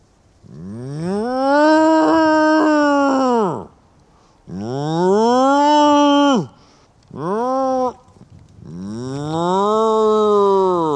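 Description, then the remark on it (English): A person imitates a cow mooing to summon Friesian cows in a field, giving four long, low, droning moos of varying length with a rising-then-falling pitch, separated by short pauses and no other talk. “The best way to summon them is to moo.”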